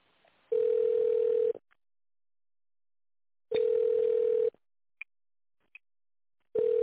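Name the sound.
telephone ringback tone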